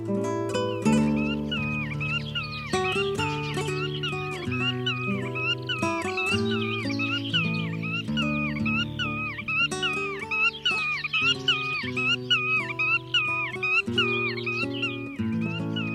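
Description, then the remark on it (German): Black-tailed godwit calls repeat steadily, nasal and wavering up and down in pitch, layered over a sustained low musical backdrop of held chords; no one speaks. “Das war die Uferschnepfe.”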